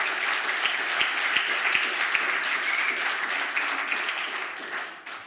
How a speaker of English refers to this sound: Unsolicited applause there,